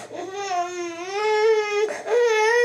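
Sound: baby crying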